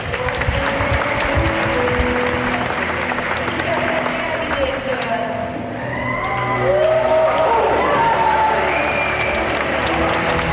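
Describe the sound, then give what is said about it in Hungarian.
A crowd applauds in a steady, dense wash of clapping that keeps going without a break, with scattered voices and a few rising whistles or cheers cutting through partway in. “Nagy tapsot megyünk.”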